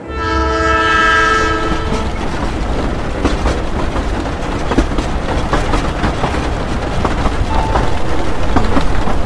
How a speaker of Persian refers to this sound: قطار به آرامی از دشت‌ها و کوه‌ها گذر می‌کرد.